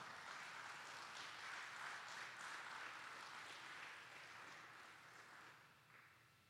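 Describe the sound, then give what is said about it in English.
A church audience at Island Church, Emerald Isle, claps steadily in a sustained welcome round of applause for a guest speaker, holding strong for several seconds before gradually thinning out toward the end. No one speaks. “Would you just give him a welcome round of applause?”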